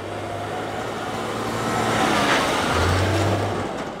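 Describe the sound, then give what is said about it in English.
Heavy road traffic rumbles steadily as massive trucks come out of the Stelco steel plant in Hamilton, heading towards the American border, droning past in a continuous low roar; a deep engine hum shifts pitch partway through as one vehicle gives way to another. No voices. “Massive trucks rumble out of the Stelco steel plant in Hamilton all day and night, heading towards the American border.”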